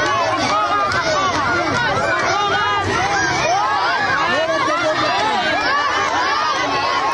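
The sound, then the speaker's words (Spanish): A large crowd of children at a school in Tel Aviv, Israel, shouting and cheering all at once as Ohad Ben-Ami visits. A dense, loud, unbroken wall of high-pitched overlapping voices that lasts the whole time without any pause. “Y es que oye muchos gritos de niños, ¿verdad?”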